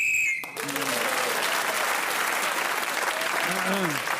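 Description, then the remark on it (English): A short, shrill whistle blast sounds once at the start, blown to end the round while a contestant is speaking, then gives way to loud, sustained applause from an audience, with a voice speaking faintly beneath the clapping. “So … was then speaking as the whistle went, gained that extra point.”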